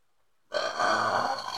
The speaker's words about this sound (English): I had a burp. It was a good one, though.